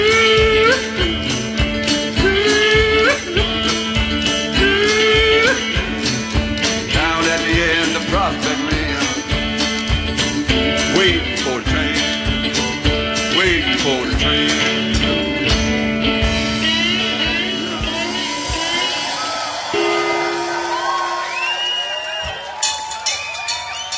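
A live band plays loud, dense music with a driving rhythm at the Cropery Festival in Oxfordshire, UK, in 2011, while a crowd cheers and whoops. Near the end the playing thins out and the crowd noise comes forward.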